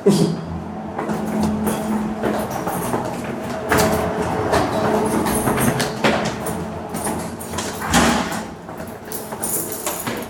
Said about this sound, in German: Im ersten Stock hört man das Rauschen der Kältemaschine.